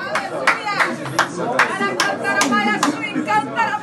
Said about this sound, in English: In this video, which went viral online, she hops in a white dress, clapping and shouting glory to God. Hallelujah, she cheers, before speaking in tongues and embracing Mendonça beside her.